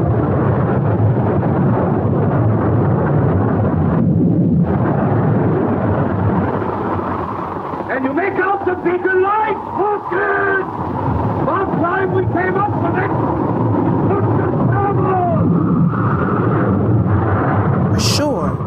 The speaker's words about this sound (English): He dismounts, looks out to sea, and spies a sailing ship battered by wind and wave. Aboard the ship, huge waves crash over the decks.